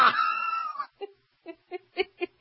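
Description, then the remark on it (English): A person screams in fright: a loud, shrill scream that rises and holds for nearly a second, then breaks off into five short, panicky yelps, with no other voices around. “I would have screamed twice as loud as that.”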